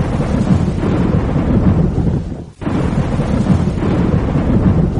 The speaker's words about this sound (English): There was a storm.